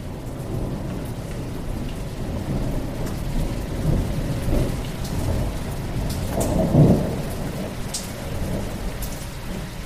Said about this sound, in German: Über der Nordsee tobte der Sturm. Blitze zuckten, der Donner rollte, Regen prasselte nieder. Unaufhörlich fegten die Böen über die Kogge hinweg.